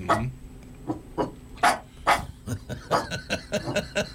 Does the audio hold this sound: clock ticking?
no